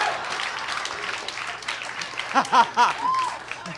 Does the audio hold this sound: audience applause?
yes